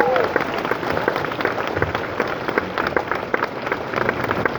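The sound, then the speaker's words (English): A crowd applauds as Brad Smith comes out on stage with Michael Phelps, dense clapping sustained at an even, fairly loud level for several seconds with a murmur of voices underneath. “Big round of applause.”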